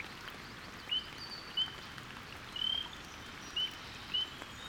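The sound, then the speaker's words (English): A spring peeper, calling from tall grass at the edge of a flooded pool in a forest, gives five short, high, piping peeps at irregular intervals, one slightly longer, over a steady soft patter of drizzling rain and drips plinking into the pool. “To my surprise, a spring peeper calls from tall grass at the edge of the water.”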